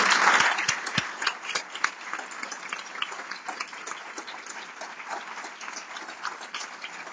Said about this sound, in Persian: به افتخار همه آدمای جسوری که تو این جمع نشستن، تک تک شماها و همه اونایی که میخوان به این جمع اضافه بشن و افتخار کنن به جسارتشون، یه تشویق جانانه بکنم.